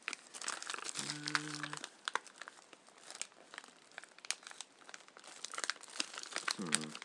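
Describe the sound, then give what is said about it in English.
Continuous crinkling and crackling of paper packaging, perforated at the top and bottom, being handled and unwrapped, with dense irregular rustles throughout and a brief hum-like murmur in the middle and at the end. “Okay, a piece of paper's perforated at the top and the bottom, but I think that's just where it's been torn off a strip of similar items.”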